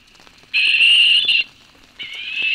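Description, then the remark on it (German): Two harsh, hissing barn owl screeches played from an MP3 player at a tower with a nest box, to lure a real barn owl. The first lasts almost a second and the second starts after a short pause. Both are fairly loud against faint background noise, with no talking. “Dazu spielt er den Ruf der Schleiereule ab und hofft, dass die echte Eule dadurch neugierig wird.”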